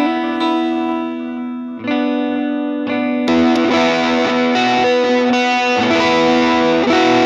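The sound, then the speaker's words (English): Electric guitar played through a warbly, modulated tape-style delay, sustained notes smearing into echoing repeats, swelling into a louder, denser wash of chords partway through, with no talking. “And then a lot of times I have to have this kind of delay, just like a more modulated tape style delay.”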